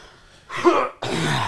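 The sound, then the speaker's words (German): Two harsh, breathy bursts in quick succession: someone coughing and clearing their throat during a coughing fit, the second burst longer and trailing off at the end. “Ich hier gerade eine Hustenattacke sterbe.”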